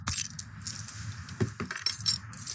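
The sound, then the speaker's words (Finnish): A small bottle of Karhu beer that had been jostled in a bag is opened: metallic clinks and rattling of the cap, then a short burst of fizzy hiss, over a steady low rumble, with no talking. “Haluatko kuulla, kun toinen pieni karhu aivastaa?”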